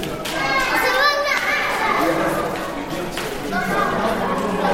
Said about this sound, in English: It's quite noisy and echoey here in the school corridor where the children are playing.